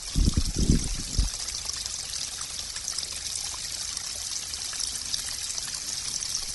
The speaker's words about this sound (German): Hier kommen ein paar Bäche und Wasser. Und hier ist es sehr kühl. Und so hört sich zum Beispiel der Bach an.